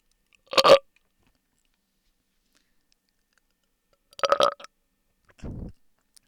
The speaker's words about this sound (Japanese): 変態だから耳だけでもいけるよね。私のゲップ聞いていけるよね。